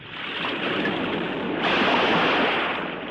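Steady roar of sea surf washing onto a beach in Hurghada, Egypt, a broad rushing hiss that swells louder midway as a new wave breaks, continuous with no voices.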